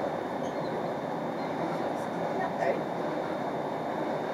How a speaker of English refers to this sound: Approaching Shettleston. Please mind the gap when alighting from this train.